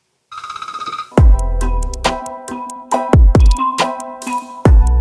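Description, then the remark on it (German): A phone ringtone plays loudly with no one talking: bright, chiming melodic notes over punchy bass hits, repeating its jingle for several seconds. It is an incoming call from a guest. “Jetzt läutet doch auch der Wang.”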